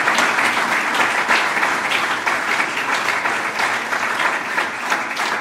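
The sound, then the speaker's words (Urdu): A church audience applauds for the Lord during a prayer service, many hands clapping steadily in a dense, continuous wash of sound at an even, fairly loud level with no voices rising above it. “I am خداوند کے لیے تالیاں بجائیں گے اور دعا کریں گے, دعا کریں گے.”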